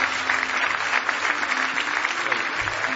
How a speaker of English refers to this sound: Give him another big hand clap of praise this morning.